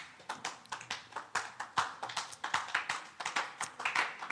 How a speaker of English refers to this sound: Oh, are you clapping or you were trying to clap?